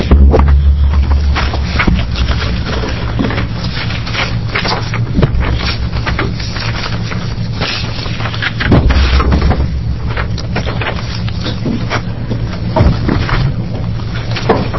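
Chairs being shuffled at a committee hearing as speakers are brought up: scattered scrapes, bumps and knocks over a steady low rumble, with no one speaking. The movements are irregular, some sharper clunks standing out from the constant background.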